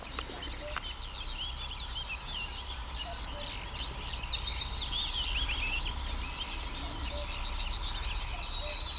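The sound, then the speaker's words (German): A dense, many-voiced spring chorus of songbirds fills the air with overlapping chirps, trills and whistles, steady throughout with a faint low outdoor rumble beneath, no one speaking. “So vielstimmig kann ein Frühlingsvogelkonzert immer noch klingen.”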